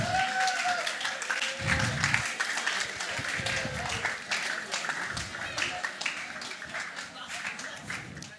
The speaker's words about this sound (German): Aber gebt den Leuten mal einen richtig fetten Applaus.